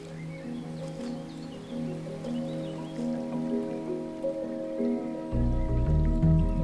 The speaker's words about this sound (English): And there's the sea. There's the sea with yachts bobbing up and down on the sea, this crystal clear water, people paddling, kids swimming, people on boats.